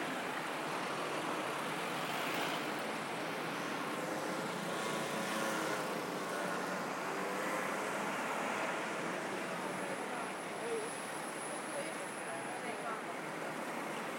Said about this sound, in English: Steady stream of traffic.